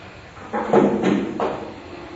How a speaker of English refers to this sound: Would you mind me closing this back door?